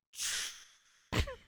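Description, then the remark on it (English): A person imitates a toilet flushing in a bathroom with their mouth as a sound effect: a long breathy, hissing whoosh that slowly fades, then a short, louder gush with a brief tonal warble at the end. “She got up and went to the bathroom and flushed the toilet.”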